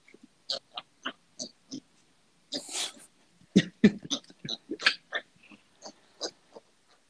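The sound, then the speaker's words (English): A female pig outdoors grunts repeatedly in short, snuffling bursts at an irregular pace, with one longer breathy snort partway through and no talking. “So, yeah, well, I mean, we got the pig and we've kept her, and she's doing bloody good.”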